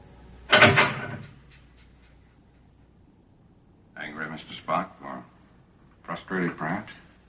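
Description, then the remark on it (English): A door is shoved and rattles once in a short, loud burst as someone tests its strength, followed by a pause and then two stretches of muffled voices. “I'm merely testing the strength of the door.”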